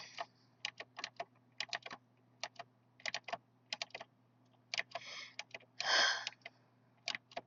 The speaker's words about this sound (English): For the clicking, I'm so sorry. I know it's loud